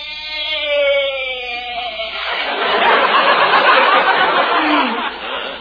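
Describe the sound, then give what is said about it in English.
A goat named Arthur lets out one long, loud bleat, starting as a wavering, tremulous cry and breaking into a harsh, raspy bray, with no one talking. “Yeah, you sure bleated a bibful, Arthur.”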